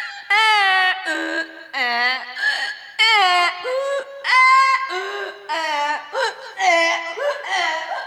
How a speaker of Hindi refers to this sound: अरे लगता है कोई गधा खेत में घुस गया है। हाँ भाई, आवाज तो उधर से ही आ रही है। जल्दी करो नहीं तो वो सारी ककड़ियाँ खा जाएगा।